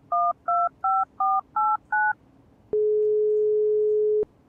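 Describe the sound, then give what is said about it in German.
Six short, evenly spaced keypad beeps of a phone number being dialed, each a dual-tone chirp, followed by a pause and then one long, steady tone lasting over a second. Clear, with no talking. “Hast du eine falsche Nummer eingegeben”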